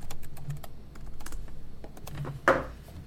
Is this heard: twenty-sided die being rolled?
yes